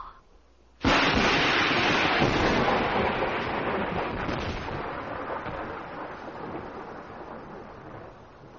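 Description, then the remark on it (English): After a brief near-silence, a sudden loud crash of thunder breaks over a dense wash of heavy rain falling at night on a mansion in Inverness, the roar slowly fading but the downpour continuing steadily to the end. “As we look in on the mansion in Inverness, night has fallen. The rain continues.”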